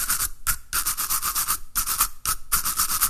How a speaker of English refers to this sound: One of the best techniques I learned in my electronic music classes was how to listen for the music that's all around us. The sigh of tires on the pavement. The rhythm of a simple toothbrush.